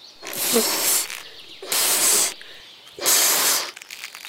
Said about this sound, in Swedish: Oj, vad du blåser, ljudmonstret. Ska du inte skicka iväg ballongen snart? Nej. Det här ska bli världens största ballongpost.